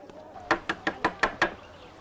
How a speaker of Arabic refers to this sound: توكلنا على الله، لقد طرقت الباب.